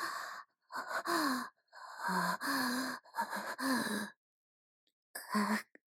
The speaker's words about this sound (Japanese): 暑い。体温が上がってきて、息遣いも荒く。なんだ、これは。まるで、発情期の動物じゃないか。